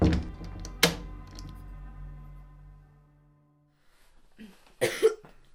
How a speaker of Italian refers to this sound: Hai una bella tosse tu, eh? Sì, e credo che abbia anche un po' di febbre.